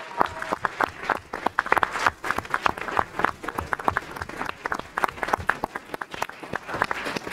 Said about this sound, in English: I just want to, let's give the band a round of applause again.